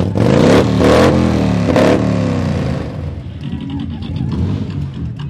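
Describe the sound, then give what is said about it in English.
A loud custom kick-start Harley motorcycle, built from scratch by its owner with a 74 cubic inch engine in a shovel frame and winner of a loud pipes contest, revs hard in two sharp bursts of throttle, its deep rumble swelling and falling, then settles into a rough, loping idle with a faint crowd murmur behind it. “This is the winning motorcycle at the Broken Spoke Saloon's Loud Pipes Contest.”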